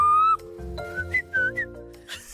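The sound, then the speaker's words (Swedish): A boy whistles bird-like calls to lure a rather shy bird: a high held note, then a run of short, gliding chirps that rise and dip in pitch, sounding fairly clear against a soft background with no talking. “jag älskar att imitera fåglar”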